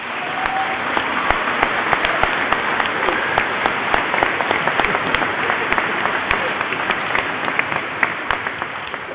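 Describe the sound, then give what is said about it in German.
A church audience applauds the First Communion children steadily for about nine seconds, a dense, even wash of many hands clapping at once with no voices standing out. “Den Kommunionkindern dürfen wir ruhig jetzt einmal klatschen.”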